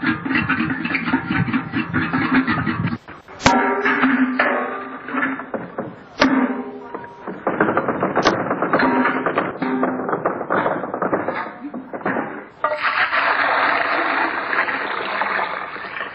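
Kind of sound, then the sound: household object, drawing water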